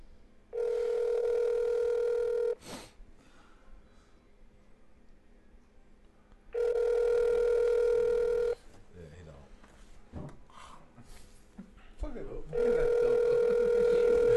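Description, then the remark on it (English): An outgoing phone call rings unanswered: a steady ringback tone sounds three times, each about two seconds long with four-second pauses, and faint voices murmur in the quiet gaps. “He didn't answer.”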